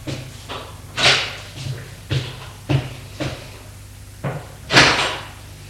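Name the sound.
door opening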